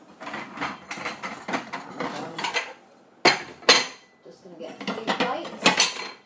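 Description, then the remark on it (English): Plates and cutlery clatter as fish pie and vegetables are dished up onto three plates: a busy, irregular run of clinks and knocks, with a pause midway before two sharp ceramic bangs and more scraping, clattering dish handling. “I think this is probably ready to be dished up now.”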